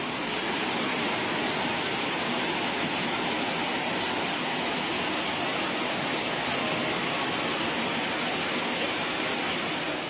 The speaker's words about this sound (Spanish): Desde hace 48 horas, este es el sonido que se escucha incesantemente en todo el sureste de España. Alicante, Murcia, Almería, Granada. Unas lluvias torrenciales que se han convertido en riadas, cascadas, torrentes. Se han llevado todo por delante.